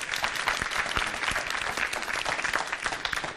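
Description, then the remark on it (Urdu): Steady applause for Team B on a Sahar World Network program as the team is given a prize cheque, filling the whole stretch, a dense wash of many hands clapping at an even loudness with no pauses and no voices standing out. “بہت بہت مبارک، تالیاں ہونی چاہیے ان کے لیے.”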